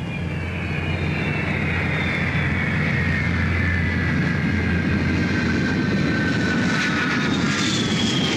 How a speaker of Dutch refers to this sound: Dit is een van de meer dan 100 vliegtuigen die elke dag op Schiphol hun wielen tegen de grond drukken.